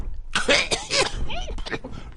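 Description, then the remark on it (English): A voice mimics an announcer's cough: a few harsh, breathy bursts in quick succession, trailing off into throaty, voiced grunts. “Announcer cough.”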